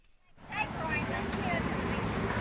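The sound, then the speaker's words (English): A steady low rumble of hundreds of idling cars snaking around the parking lot of a 500-member church distributing supplies in Long Beach, Mississippi, six weeks after Hurricane Katrina, at noon on a hot day, with a broad wash of background noise and faint, indistinct voices, starting abruptly after a brief quiet moment. “Hundreds of idling cars snake around the parking lot of the 500-member Gulf Coast Worship Center.”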